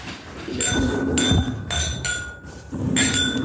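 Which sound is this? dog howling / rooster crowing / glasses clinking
glasses clinking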